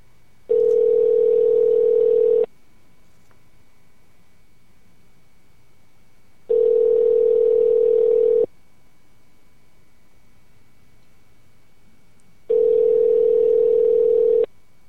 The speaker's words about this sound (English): I'm calling. Stand by. It's ringing.